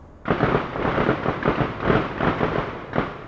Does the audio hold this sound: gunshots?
yes